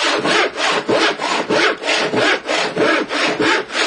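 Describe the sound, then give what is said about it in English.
A hand saw cuts off a short piece of pipe so it fits in a tank, in steady back-and-forth strokes, about two per second, each a loud, raspy, hissing scrape with brief dips between. No one speaks. “Now I'm going to saw off just a little bit of pipe so that we've got enough room there in the tank.”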